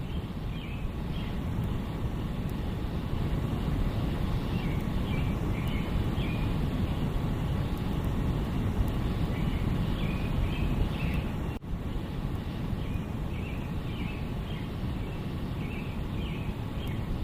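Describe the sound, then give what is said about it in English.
Birds chirp and sing repeatedly at 2 a.m. in Phnom Penh, Cambodia, soft and layered over a constant, heavy background rumble and hiss, with no one talking. “Oh, in the background, credit to the birds that have been singing at 2 a.m. in the morning.”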